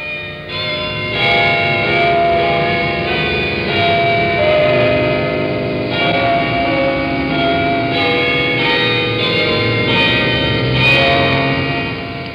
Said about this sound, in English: And on Sunday, there are church bells.